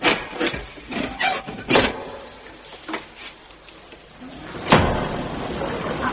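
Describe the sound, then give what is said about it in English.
A rapid series of sharp metallic clacks and scrapes as bolts slide back on a trapdoor leading down to the devil's kettle cave, then a pause before a heavy wooden thud as the trapdoor swings open, followed by a low rumbling creak. “Now, just draw back the bolts and open it, and you'll be able to see.”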